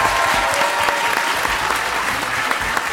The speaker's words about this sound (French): notamment avec le grand Henri Dess, qui vient spécialement de Suisse pour nous. Il est très rare dans les médias. Vous pouvez applaudir. Henri Dess est avec nous.